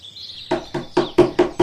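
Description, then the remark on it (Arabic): Six loud, hard knocks on a wooden door, a gazelle knocking hard on the donkey's house door, in a steady, quick rhythm, growing slightly more forceful, with a faint high bird-like chirp fading out just before them. “إن الغزالة تطرق الباب بقوة.”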